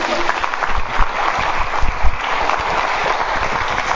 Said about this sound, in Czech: Tak děkuju vám, zatleskáme si.